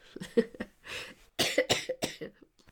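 A rapid fit of harsh, explosive coughs, several bursts in quick succession with a short pause midway, loud, trailing off into faint breathy sounds.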